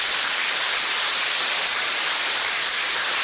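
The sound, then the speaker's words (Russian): Steady, dense applause from an audience honouring two school directors who retired this school year, a continuous wash of many hands clapping at once that stays loud and even throughout, with no voices over it. “Многие годы отдавшие системное образование, опытные, мудрые, достойные наших сегодняшних аплодисментов. Бурных.”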